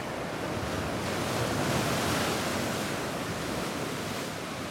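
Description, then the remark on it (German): Rough Black Sea surf roars continuously and fairly loud, swelling briefly in the middle as waves churn and crash against the rocks of a small bay at Gursuf, a resort northeast of Yalta in Crimea, with no voices. “In Gursuf, einem Badeort nordöstlich von Jalta, klatscht in einer kleinen Bucht das Schwarze Meer in seiner Aufgewühltheit wuchtig an die Felsen.”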